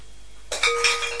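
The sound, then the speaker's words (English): A small toy egg is dropped by a child into a fruit bowl with a sharp clink, followed by a short ringing rattle that lingers about half a second, with no voices. “Oh, and you're dropping an egg in the bowl as well.”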